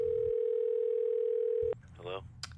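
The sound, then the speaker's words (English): A steady, loud telephone tone hums continuously for nearly two seconds, then cuts off abruptly, followed by a brief burst of voice as someone begins talking. “So let's go to the phones.”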